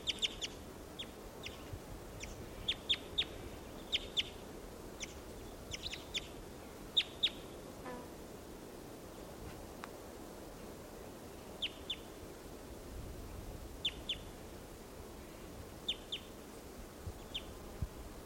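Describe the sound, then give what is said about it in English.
A wild bird in flight calls repeatedly with short, sharp, high-pitched chirps in irregular bursts, set against a steady low background rumble with no one talking. “And there's that one, that wild one that just called, giving funny song phrases in flight.”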